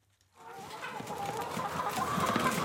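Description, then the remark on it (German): A dense chorus of white laying hens clucking and murmuring together in their barn, pecking at grain and scratching in sawdust, many birds overlapping in a steady, busy din that starts after a brief silence and swells slightly louder. “Weiße Hühner picken nach Körnern, scharren im Sägemehl, halten ihren Kopf schief und beäugen neugierig den Eindringling in ihrem Stall.”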